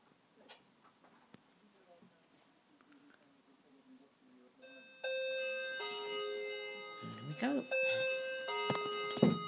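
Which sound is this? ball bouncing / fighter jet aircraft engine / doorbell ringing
doorbell ringing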